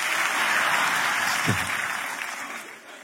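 An audience at a church service claps together in sustained applause, a dense, steady wash of many hands, tapering off slightly toward the end.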